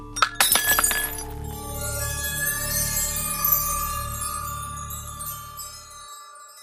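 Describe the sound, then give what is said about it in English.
A few sharp glass clinks in quick succession, like glasses touched together in a toast, followed by a long, bright ringing tone that slowly fades away over several seconds. “Cheers. Prost.”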